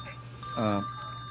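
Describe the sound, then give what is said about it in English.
A telephone rings once in a short, bright electronic chirp, standing out clearly over a steady low background hum before cutting off. “Speaking of which, that was her on the phone.”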